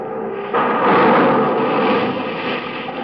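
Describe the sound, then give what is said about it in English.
A sudden loud explosion bursts in after a brief lull as a man's store blows up, swelling into a heavy, sustained roar of rumbling debris and fire that fills the remaining seconds with no voices. “You know why that man's store just blew up in his face?”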